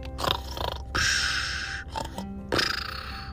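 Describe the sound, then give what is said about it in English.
A cheetah sleeping in a cave snores in rough, raspy breaths: short snorting inhales followed by two longer, buzzy exhales, loud and uneven, with no talking. “Yeah, sometimes when cheetahs are sleeping, they snore.”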